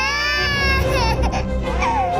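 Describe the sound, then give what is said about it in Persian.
A baby cries loudly and continuously, a high, wavering wail with quivering pitch that rises and falls over a couple of seconds, with no pause. “باشه، طوری نیست عزیزم، گریه نکن.”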